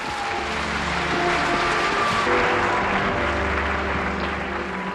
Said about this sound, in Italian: Quando fu presentato al pubblico e alla critica, queste furono le reazioni registrate in sala.